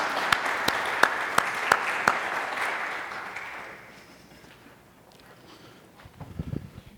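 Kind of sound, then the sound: crowd, audience applause in church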